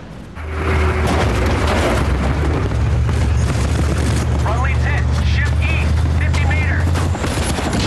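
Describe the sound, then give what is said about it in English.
A loud explosion erupts amid a chaotic battle on a bridge, blowing a man over the edge, with rapid gunfire cracks and a heavy Humvee engine rumbling, plus faint shouting voices in the background. “An explosion blows one of the men over the edge.”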